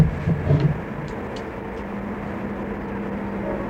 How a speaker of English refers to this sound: Maybe we better wait till the train gets by.